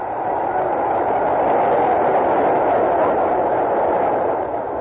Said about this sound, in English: Well, listen to the crowd for a second.